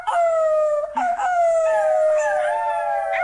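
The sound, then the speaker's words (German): A sixth-grade pupil imitates a wolf howl: a loud, sustained tone that slides slowly downward in pitch, with a brief break about a second in before carrying on. “Ich kann eigentlich keinen Wolf, keinen der ich vielleicht.”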